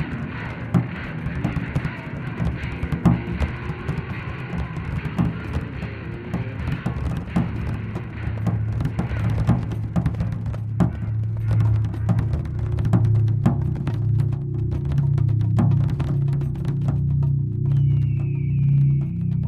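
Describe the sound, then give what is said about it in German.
Many fish flapping and thrashing: a dense, irregular patter of wet slaps and thumps, busy at first, then thinning into scattered sharp slaps over a steady low drone. “Es ist das Geräusch von vielen zappelnden Fischen.”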